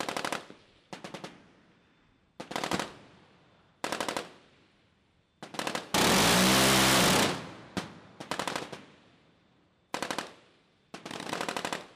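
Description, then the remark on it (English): A radar-guided rotary cannon, the SeaWiz with six rotating barrels able to fire 75 bullets per second, aboard the ship Lake Erie, rips out a series of short, rapid-fire bursts with pauses between them, then one longer, roaring stretch of continuous fire in the middle before the short bursts resume. “The radar-guided cannon has 6 rotating barrels that can fire 75 bullets per second.”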